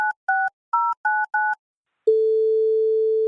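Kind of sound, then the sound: signal or alarm, telephone ringing tone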